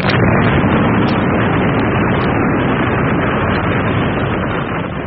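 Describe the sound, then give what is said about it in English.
A sea mine in the water, struck with a hammer, explodes in a huge, sustained roar that fills the whole recording, a dense, muffled rumble that stays loud and steady for about five seconds with no voices. “I wonder what's in it. I'll give it a bang with this hammer.”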